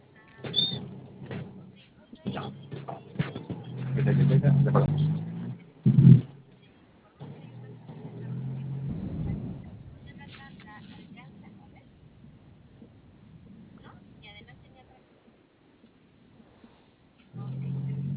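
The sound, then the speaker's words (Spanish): A bus in a hurry overtakes on the road, its low engine roar swelling and fading over steady road noise, with voices murmuring faintly throughout. “Bueno, aparte de eso, del extraño nomás del autobús que nos quiere pasar, que lleva prisa.”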